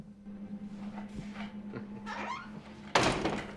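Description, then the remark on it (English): An office door creaks as it swings, its hinges squeaking, then shuts with a sharp, solid thud over a low steady hum. “Siler smiles at Noah, then closes the door, the smile dropping from his face.”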